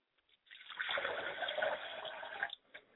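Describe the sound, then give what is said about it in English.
Water is poured steadily into a glass as a libation for about two seconds, fairly clear, with a gurgling splash that stops abruptly, followed by a small final drip. “I pour a glass of water for my father's spirit and hope that he will travel here to reconnect with us and to support us in this effort.”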